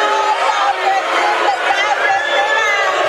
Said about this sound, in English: Yeah, you can hear the boos coming out a little bit now. Definitely not happy with that call, as you see some Patriots waving their arms up, signaling for the crowd to continue that noise.